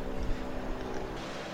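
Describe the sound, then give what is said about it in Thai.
A boat engine drones steadily, a low rumbling hum with a faint tonal whine, wrapped in wind and water noise, with no one talking. “เมื่อก่อนอยู่หินหมักเป้งจะมีเสียงเรือเสียงอย่างเนี้ย”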